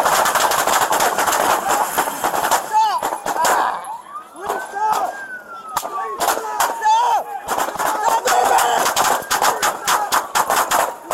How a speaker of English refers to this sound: Wow, a hail of gunfire might be an understatement. Anaheim, California,